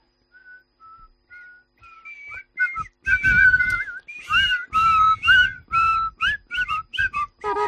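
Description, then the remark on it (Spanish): Someone whistles a short, catchy car-insurance jingle melody, starting with soft separate notes and building into a brisk run of bright, pitched tones with quick slides between them. “A ver si soy capaz de silbarme una melodía de seguro de coche.”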